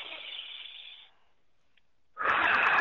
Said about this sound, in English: Another thing you can do is do a little bit of deep breathing, because that will take you into a deeper state of meditation. Just taking a deep breath like this, I'll do an example just like this.